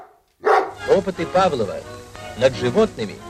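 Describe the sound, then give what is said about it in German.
A dog barks several times in short bursts, with pauses between the yaps, fairly loud. “Das Lieblingstier für seine Experimente? Hunde.”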